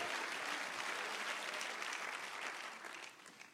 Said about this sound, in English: Clap your hands to the glory of the Lord, everybody. Amen, amen, amen.